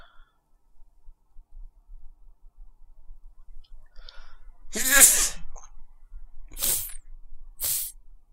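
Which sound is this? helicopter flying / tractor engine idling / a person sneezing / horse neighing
a person sneezing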